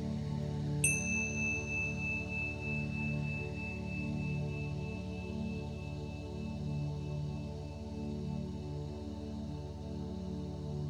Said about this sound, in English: The meditation consists of verses of scripture being read with breaks between. In the breaks, you will hear a chime sounded twice.